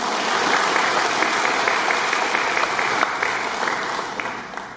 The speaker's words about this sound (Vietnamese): Cho anh tràng pháo tay là như vậy đi.